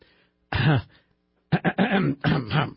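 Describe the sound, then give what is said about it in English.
A person clears their throat: one rough, voiced rasp, a brief pause, then a longer string of choppy, gravelly throat-clearing bursts. “Yeah, let me clear my throat on that one.”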